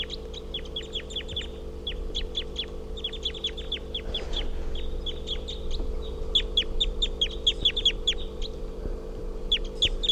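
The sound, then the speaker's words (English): A female wild bird, nearby on the ground and hopping around, gives bursts of short, high, sharp chirping calls, repeated rapidly with brief pauses, over a steady low humming background. “We're calling that wild bird is here, and it's a female, and it's on the ground now, hopping around.”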